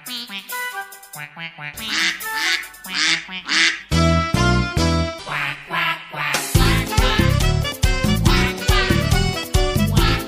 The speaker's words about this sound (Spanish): El pato es una ave acuática con un pico ancho y aplastado, patas cortas y palmeadas que facilitan su desplazamiento en el agua.